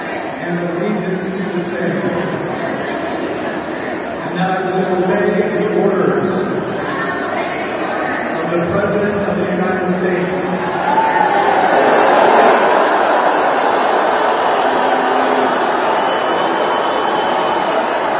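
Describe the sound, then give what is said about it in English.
A large crowd at a women's professional soccer match in Portland Park, Portland, Oregon, boos new United States Army enlistees during their swearing-in ceremony: a dense, sustained roar of low voices that swells after a few seconds and stays loud and unbroken to the end, with scattered shouts mixed in. “The crowd booed. They booed those enlistees.”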